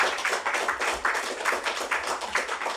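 applause

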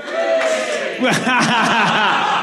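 audience cheering

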